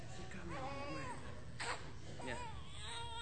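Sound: baby crying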